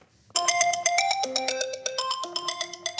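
A telephone ringtone for a call to Thomas Zenker, mayor of Zittau, plays a rapid, bright electronic melody of short stepping tones, steady for about three seconds, with no voices.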